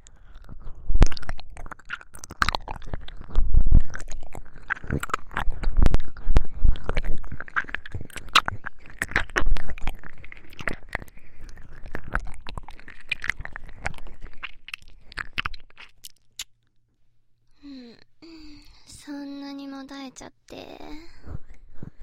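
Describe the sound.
Wet, squishy ear-eating mouth sounds: dense smacking, clicking and slurping pour out steadily for about sixteen seconds, then fade to a short pause before a soft voice speaks at the end.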